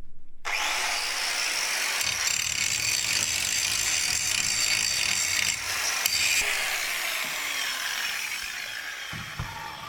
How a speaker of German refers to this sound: Wenn du etwas Älteres hast, musst du verputzen. Und dann nimmst du halt die Schmiegelmaschine.